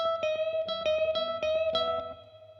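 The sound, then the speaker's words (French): A twangy electric guitar repeatedly plays a two-note interval, reaching up to a D sharp at the 16th fret, with a sustained high note ringing over plucked lower notes, all bathed in reverb and fairly loud, with no talking. “Donc il faut y aller légèrement et avec voilà, un intervalle comme ceci. Et avec le son twang et la reverb, ça marche, enfin c'est simple, mais ça marche, ça fait un super effet.”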